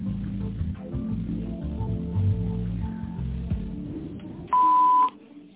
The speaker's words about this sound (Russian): Если вы знаете добавочный номер абонента, наберите его после звукового сигнала или дождитесь ответа секретаря.